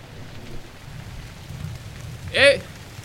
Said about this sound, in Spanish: ¡Ay, qué vaina! ¡Va a llover!